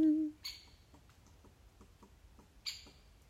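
Two brief, high, raspy bird calls about two seconds apart in a forest on a sunny day, quiet, with soft scattered ticking and faint outdoor ambience between them.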